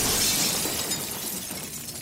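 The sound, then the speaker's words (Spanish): A loud crash bursts out with a spray of shattering glass, bright high-pitched shards scattering and tinkling for about two seconds as the noise slowly thins out; something very large has broken. “Fue un ruido súper, súper fuerte, seguido de ruido de cristales que se rompían.”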